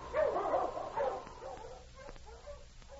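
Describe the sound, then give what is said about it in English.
A huge gray sled dog, running free of the harness ahead of a dog team and sled on a mountain trail, barks loudly in a couple of harsh bursts, then trails off into fainter yips and whines. No one speaks. “A huge gray dog ran free of the harness ahead of the team, looking back occasionally at his master, Sergeant Preston of the Northwest”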